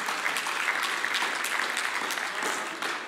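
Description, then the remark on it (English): A crowd applauds to the Lord, a dense wash of many hands clapping at once with no break, holding an even loudness for about three seconds before easing slightly at the end. “Yeah, you clap to the Lord.”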